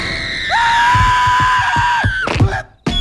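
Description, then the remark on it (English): A child lets out a loud, sustained, high-pitched scream for about two seconds over steady low thumping, then it cuts off abruptly into a short clatter and a moment of silence. A little kid in bed screams as a monster breaks into his room in Monsters, Inc. “shows a little kid lying in bed, a monster breaking into his room, preparing to burrow under the bed and make him scream.”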